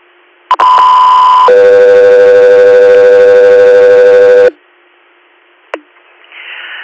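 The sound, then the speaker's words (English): A loud two-tone radio dispatch alert from Echo 3: a steady high tone for about a second, then a longer, lower buzzy tone for three seconds, ending abruptly, followed by a brief squelch chirp and hiss. “Echo 3 here, stand by for tone.”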